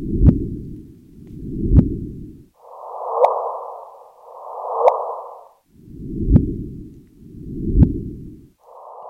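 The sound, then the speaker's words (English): Gravitational waves from two black holes colliding a billion light years away, recorded by a team of scientists and rendered as sound: a repeating series of swelling whooshes, each ending in a sharp click, alternating between a low rumble and a higher hiss, with no talking. “A few days ago, a team of scientists announced that they had heard and recorded the sound of two black holes colliding a billion light years away.”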